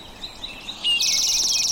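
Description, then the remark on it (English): A loud, buzzy towhee trill, briefly preceded by a few soft, high chirps, with no talking. “There's that buzzy towhee.”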